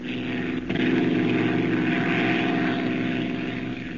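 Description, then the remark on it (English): The propeller engine of the plane carrying Clark Kent, Lois and Jimmy drones steadily and loudly throughout, a continuous throbbing hum with a slight surge in intensity after the first half second, and no voices present. “Terrified, Lois is frozen to her seat as Clark Kent snatches the deadly black narcissus from Jimmy's hand and hurls it into the rear of the plane.”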